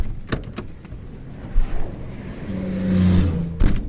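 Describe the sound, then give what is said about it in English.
Cars and trucks speed along three lanes of the Beltway highway in Boston, past a car stopped after a tire blowout, with a steady wash of engine and tire noise and one vehicle swelling louder as it roars past, broken by a few sharp knocks. “3 lanes of cars and trucks keep barreling down the road toward our crippled car”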